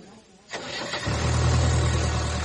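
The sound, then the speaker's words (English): A car engine cranks briefly, then catches and settles into a steady, low idling rumble, fairly loud. “How's the engine? Big, strong, white engine.”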